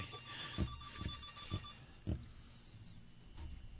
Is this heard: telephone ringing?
yes